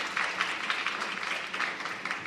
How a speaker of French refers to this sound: On les applaudit.